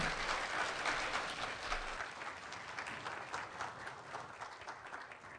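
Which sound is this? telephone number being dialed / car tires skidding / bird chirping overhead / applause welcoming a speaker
applause welcoming a speaker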